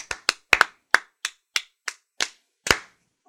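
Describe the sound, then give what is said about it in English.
One person claps slowly and sarcastically, about ten sharp, crisp claps with no talking, the gaps between them gradually stretching out so the applause sounds unenthusiastic. “That's a sarcastic clap, and I do not appreciate it.”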